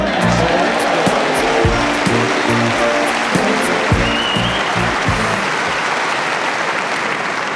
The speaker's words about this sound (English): The way you're clapping, it was miles out.